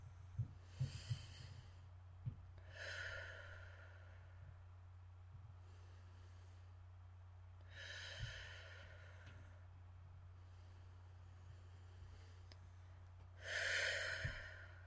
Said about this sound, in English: Let's take a few deep breaths together.